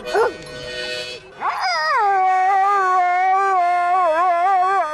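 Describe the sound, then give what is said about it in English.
An Akita and Chow mix dog howls in a long, wavering, sustained tone that rises and falls like singing, loud, preceded by a couple of short yelping whines at the start, during a dog party singing contest. “He is an Akita and Chow mix and whatever else he could possibly be.”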